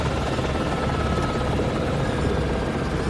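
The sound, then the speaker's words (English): A helicopter landing at Tor's Ridge, just over the lake from Te Anau, carrying takahe in travel boxes; its rotor produces a loud, steady, dense chopping roar that fills the whole stretch without letting up. No voices are heard. “As the chopper lands, we can hear the birds in their travel boxes calling.”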